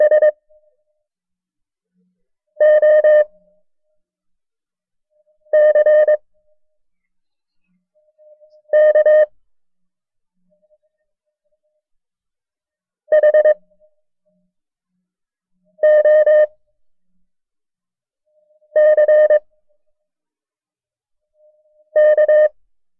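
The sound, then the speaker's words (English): Morse code tones sending a series of the character for the letter X (da-da-da-da) in a code lesson: a bright, buzzy tone sounds in eight short bursts, each repeated about every three seconds with silence between, clear with no one speaking. “I will send a series of the character da-da-da-da, and at the very end of the code character, say as fast as you can, X.”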